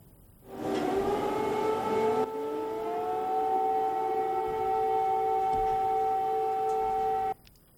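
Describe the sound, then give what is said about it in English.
An air raid siren in Ukraine, sounding during a nationwide air raid alert as Russia launches drone strikes on Kiev and Odessa, wails steadily, its tone rising at the start and then holding a long, loud, sustained pitch for several seconds before cutting off abruptly. No voices are heard. “Ukrainian authorities have declared an air raid alert across the country as Russia launches fresh drone strikes on the capital Kiev and the port city of Odessa.”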